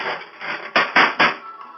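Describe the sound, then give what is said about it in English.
Three loud, sharp metallic whacks land in quick, even succession, like someone being hit with a steel folding chair, after a second of rough, noisy rustling. No one speaks. “I'll slap you with the steel folding chair.”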